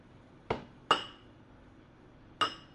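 Three bright clinks of cups tapped together in a toast, two in quick succession and a third after a pause, each ringing briefly against a quiet background with no talking.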